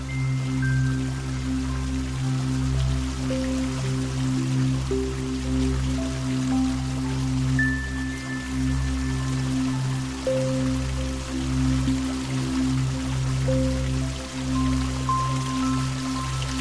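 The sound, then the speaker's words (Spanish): Water from an old stone fountain trickles and splashes steadily, a continuous patter that never pauses, layered over a soft, sustained low humming tone with occasional faint higher notes. “Vemos no muy lejos una fuente preciosa de piedra antigua que emana agua relajadamente.”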